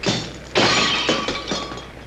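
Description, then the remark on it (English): The glass of a stage footlight in a saloon shatters with a loud crash as a wounded man climbs onto the stage, followed by several smaller bursts of breaking and tinkling shards over about two seconds, bright and sharp with no voices. “Weak and wounded Andre has climbed onto the stage, breaking one of the footlights.”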